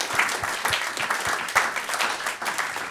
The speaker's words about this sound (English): I can't do the math this fast, but I believe that Bill Corbett has won the James Bond quiz. Thank you. Bill Corbett. A round of applause for Bill Corbett.